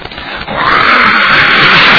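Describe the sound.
A person imitates a horse neighing as cavalry mount up for battle: a loud, raspy, strained cry that swells in after a brief rough onset and holds steady for over a second, alone.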